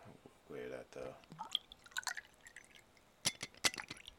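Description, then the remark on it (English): Jameson whiskey is poured into a glass with irregular glugging drips and a couple of sharp glassy clicks near the end, following a brief murmur of voice at the start. “I think it's time to pour one for Fife.”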